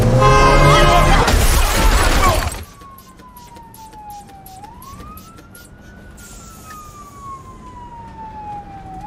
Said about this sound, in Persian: نه ماشین داره میره.